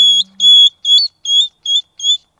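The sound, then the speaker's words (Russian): A hedgehog from Russia's Altai Krai crying: six short, high-pitched squeaky whines in a steady series, each breaking off sharply, the later ones a little fainter. No voices. “Так он плачет.”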